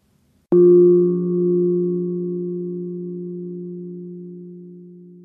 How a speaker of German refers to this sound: Wenn der Gong der Klangschale einmal erklingt, dürfen Sie mit der Übung beginnen.